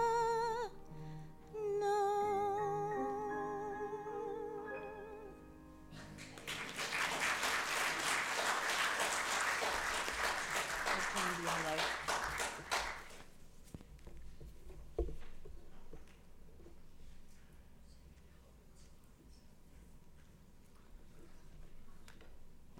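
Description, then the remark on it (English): A church audience bursts into loud, steady applause for several seconds as sustained music ends, applauding the children's church as it is dismissed; then the clapping dies away into a quiet murmur with a few scattered claps. “Y'all give them a round of applause as well.”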